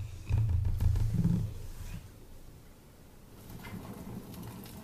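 A crackling campfire: a deep, loud roaring rumble for the first second and a half, then a quieter steady hiss with scattered faint pops and snaps.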